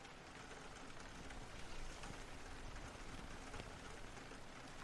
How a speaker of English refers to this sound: Let's just stay like this for a second. It's kinda nice, you know. Just hearing the rain.